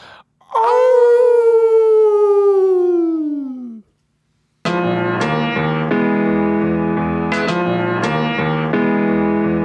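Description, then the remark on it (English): A loud, wolf-like howl from human voices, given for Super Booker T, holds for about three seconds, its pitch sliding slowly downward, then breaks off; after a short silence, thumping music with a steady beat starts. “Let's give him a howl, Super Booker T.”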